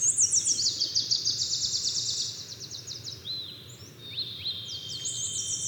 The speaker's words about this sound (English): They spent up to 10 days at a time camped in the park, often waking up at 3 a.m. to the soundscape of birdsong.